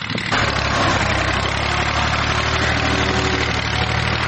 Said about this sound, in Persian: در ولسوالی واشهر ولایت هلمند افراد مسلح طالبان در نزدیکی یک زمین کشت کوکنار ساده و تماشا میکنند که چگونه تراکتور کشت کوکنار را تخریب میکند.